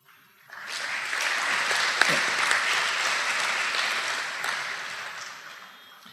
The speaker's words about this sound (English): I thank you from the bottom of my heart, and you deserve a big applause.